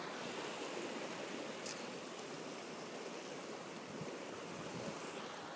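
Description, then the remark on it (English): Ocean surf washes steadily onto a beach with a big sea wall and rocks and reefs below it, in a continuous, hissing roar of breaking waves, even and unbroken throughout, with no voices present. “And I am waiting for you already at the beach. There is, right by the water, there is a big wall that protects the water from hitting the land.”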